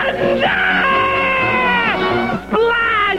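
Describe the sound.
A person leaping from a tree lets out a loud, drawn-out shrieking scream with a wavering, sliding pitch, breaking off briefly before a second wailing burst. No speech accompanies it.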